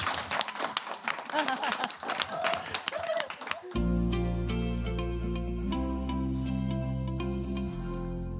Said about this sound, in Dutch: Mag ik een groot applaus voor Anti-Dis?